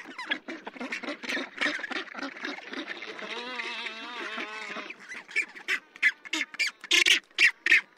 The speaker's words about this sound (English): It's the black-browed albatross that's laughing, and the high-pitched squawking comes from rockhopper penguins. Both of these species are awkward and ungainly on land, but masters of the wild waves that surround them.